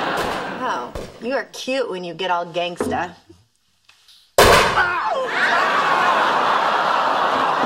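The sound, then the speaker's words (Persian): A single loud gunshot cracks out after a brief pause, following talking and snickering laughter, and leaves a steady wash of noise ringing afterward. “من کلی جی تی ای بازی کردم، فکر کنم بتونم از پس یه تفنگ در بیارم”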